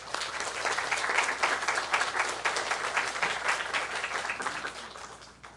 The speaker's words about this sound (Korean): 여러분들 박수로 맞아 주시면 감사하겠습니다.